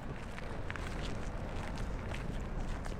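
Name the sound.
footsteps walking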